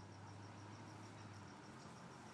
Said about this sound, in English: Anyway, I just thought I'd sit out back a little bit, hear the crickets. Hey, I do live in the country.